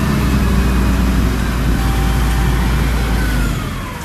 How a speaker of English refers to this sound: John Thies and workers from his company, Worry Free Alaska, put straps around the heavy bronze. And the lift truck, run by Jacob Wright, pulls the whole thing off the crate and into the air.